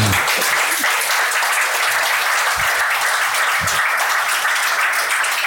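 A large audience applauds steadily, a dense wash of many hands clapping at once, loud and sustained without letup for the whole stretch, with no voices breaking through.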